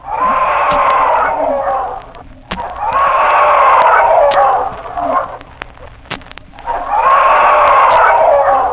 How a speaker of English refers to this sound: When a hawk flies into the chicken yard, the adult chickens each give a loud scream, and this hawk warning causes the chicks to run and hide at once, under or next to any nearby object.